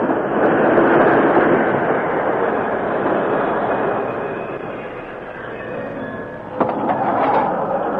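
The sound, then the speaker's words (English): A westbound express train rumbles along steadily with a rushing mechanical roar that gradually eases as it slows to a stop at a railroad station, ending with a sharp clank near the end. No one speaks. “Some days later, at the railroad station east of Redtown, the westbound express slowed to a stop.”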